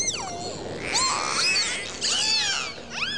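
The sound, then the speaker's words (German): Dolphins squeak and chatter in a busy, overlapping stream of rising and falling whistles, steady throughout, with no voices present. “Hören Sie einmal das freundliche Kichern und Quäken von Delfinen.”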